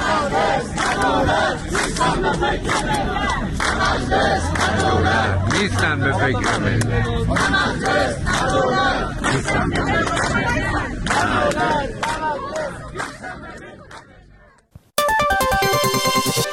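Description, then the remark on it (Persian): A large crowd at a protest gathering of retirees and their families chants slogans loudly in unison, such as "Raisi, liar" and "enough oppression, our table is empty", voices rising and falling in a rough rhythmic cadence for about fifteen seconds before cutting off abruptly, followed by a brief burst of music. “شعارهایی هم در این تجمعها داده شد، مانند رئیسی دروغگو، حاصل وعدهات گو و ظلم و ستم کافیه، سفره ما خالیه.”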